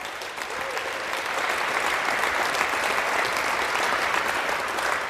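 An audience in a tent applauds after a talk, steadily, a dense wash of many hands clapping that swells slightly after the first second and holds at an even, fairly loud level throughout, with no voices.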